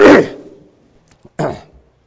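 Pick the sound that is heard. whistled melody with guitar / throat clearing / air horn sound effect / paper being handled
throat clearing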